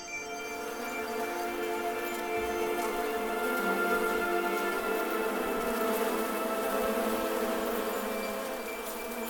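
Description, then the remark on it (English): A dense swarm of insects buzzes continuously as it descends on a man, many overlapping droning tones forming a thick, steady hum that swells slightly in the middle and holds throughout, with no voices. “You watch the swarm descend on the necromancer.”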